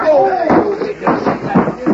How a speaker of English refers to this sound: Reckon I can still handle my fist. Oh, Draddy, looks like he's busted that chair before. You knocked him clean out